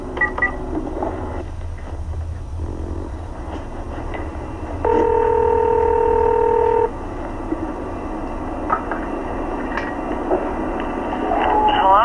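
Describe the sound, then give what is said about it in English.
A steady telephone dial tone hums for about two seconds, framed by a few short, faint touch-tone beeps of dialing as a number is called back, with low background rumble throughout and no talking. “We haven't received a phone call yet, so we'll go ahead and try calling back at the number”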